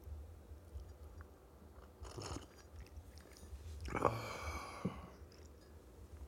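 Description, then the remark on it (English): Two quiet slurping sips of hot black coffee in the morning, separated by a short pause, followed by a soft swallow and a faint click, with no talking. “Got my black coffee right here in front of me. Let me grab a sip of that, man.”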